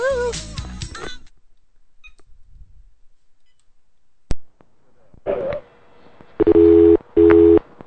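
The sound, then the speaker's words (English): A telephone ringback tone sounds twice near the end of a call to the Pastoria Hotel for the Flix Restaurant: two steady, evenly spaced buzzing rings heard clearly over the line, following a burst of music and a sharp click. “It's ringing.”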